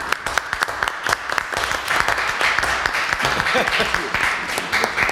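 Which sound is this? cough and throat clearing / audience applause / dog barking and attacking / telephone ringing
audience applause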